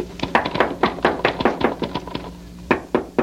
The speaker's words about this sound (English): You get to the top, just bang on the trap door. Yes, thank you. Bang hard so he'll hear you.